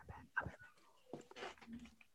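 An agitated dog lets out several quick, uneven bursts of yelping and whiny barks, fairly faint and with no one talking over it.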